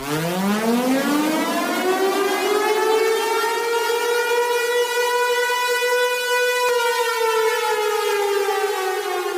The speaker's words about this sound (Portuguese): após o toque da sirene, ato simbólico que será feito no horário do rompimento da barragem para representar a sirene de alerta que infelizmente não tocou a tempo de salvar aquelas vidas.